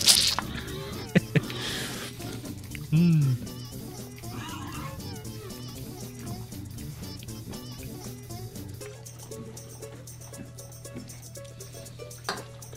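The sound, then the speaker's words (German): Pigs outdoors grunt and let out a few sharp squeals, loudest in the first few seconds, over a steady low droning background that continues after the animal noises fade. “Oh, die Schweine haben wieder was zu tanzen.”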